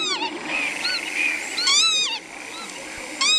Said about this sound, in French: Alors cet oiseau, c'est quoi ? C'est un vanneau huppé.